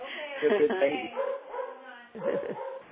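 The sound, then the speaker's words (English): A dog barks and yips in short bursts, with whiny, whimpering tones between barks, fairly loud throughout the few seconds. “Yeah, I hear barkings.”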